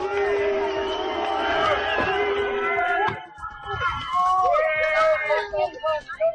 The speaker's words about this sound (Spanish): Era una visita complicada porque en Heidenau, muy cerca de Dresde, está bastante extendido el rechazo a los albergues de refugiados. Merkel contaba con una bienvenida fría y tuvo que escuchar incluso algunos abucheos.